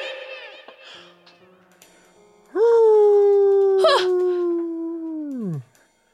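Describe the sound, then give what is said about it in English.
A wolf inside a castle lets out one long, loud howl lasting about three seconds, sliding up at the start, holding a steady tone, then dropping away, after a stretch of quieter whines and yips. “A wolf followed me in here.”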